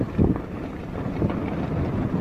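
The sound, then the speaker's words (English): Strong sandstorm wind roars steadily, heard from inside a car, buffeting the microphone with low rumbling gusts that swell and ease without pause, loud, with no voices. “That is the sound of, I'm told, a 25-hour, mile-an-hour sandstorm.”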